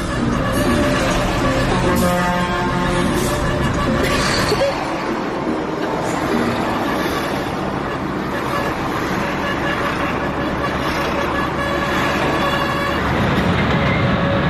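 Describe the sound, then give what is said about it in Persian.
Busy outdoor ambience at the truck freight terminal in Qazvin, Iran, during a truck drivers' strike, with a steady engine rumble and repeated horn blasts ringing out over a noisy crowd, dense and loud throughout, with voices mixed into the din. “الان تاریخ 9/7/97 پایانه قزوین، هیچ کس بار نگرفته.”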